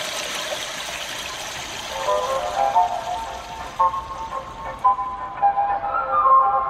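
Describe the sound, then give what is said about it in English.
A continuous electronic rushing-water sound from a device in a Japanese public restroom that mimics a flushing toilet, played on a loop, steady and fairly loud, with faint gurgling tones rising through the second half and no voices. “A device that mimics the sound of an ever-flushing toilet.”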